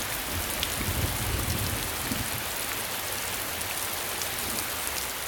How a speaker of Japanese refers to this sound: 新郎新婦の神々への宣誓が済んだ頃、黒雲が空を覆い、ぽつりぽつり雨が降り出し、やがて車軸を流すような大雨となった。